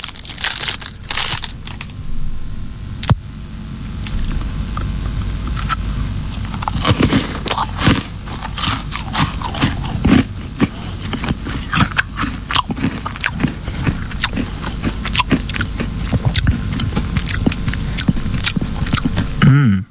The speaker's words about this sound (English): Sorry that I chewed with my mouth full. However, I thought it would give you a better chance of guessing what I was eating.